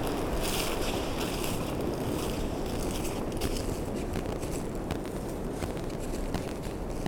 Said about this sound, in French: Je sais pas si ça exalte vos oreilles. En tout cas, moi ça m'exalte. Je suis ici, forêt épaisse, écho du vent.